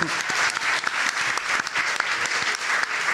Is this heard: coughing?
no